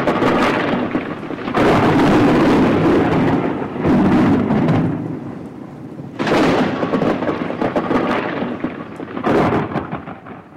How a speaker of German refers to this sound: Und da kam ein Sturm, der an der Bergwand rüttelte, dass die Felsen